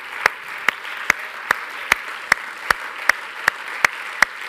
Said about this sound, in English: Can we give him a hand clap again tonight?